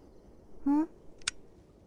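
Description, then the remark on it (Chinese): A short vocal sound rises briefly, then a single crisp click sounds as a star-pointer laser pen switches on, against a quiet background. “这是什么呀？纸星笔，那是什么啊？”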